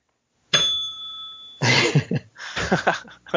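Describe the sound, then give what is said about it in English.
A small bell is dinged once, clear, its bright tone ringing for about a second before rough, coughing-like vocal bursts take over. “Whenever you screw up on the podcast, you're gonna ding that bell.”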